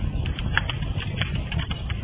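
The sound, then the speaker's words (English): A fire crackles steadily, with scattered sharp pops and snaps over a continuous low, rumbling hiss. No one speaks. “you get to hear our opening fire crackling away.”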